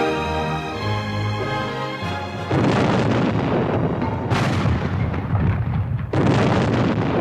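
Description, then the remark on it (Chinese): Soft music gives way to heavy cannon fire from Union soldiers celebrating victory: three loud, booming blasts about two seconds apart, each rolling into a long, rumbling roar that fills the space between shots. “与此同时，战线另一侧的北军士兵开始用炮声庆祝胜利。”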